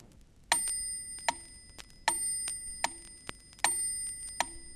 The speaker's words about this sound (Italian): Ascolta le due cadenze ben distinte dal suono del campanello. Cadenza binaria.